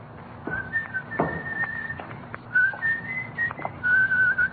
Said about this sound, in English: That's a pretty tune you're whistling